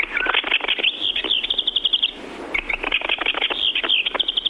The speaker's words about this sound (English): The effervescent song, which is sung by both genders, has been called rush and jumble, and each bird will bubble out the notes up to a dozen times per minute.